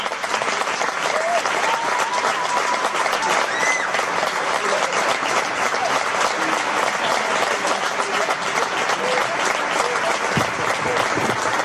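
Loud, sustained applause from an audience, a dense steady wash of many hands clapping at once for the whole stretch, with no pause or fade.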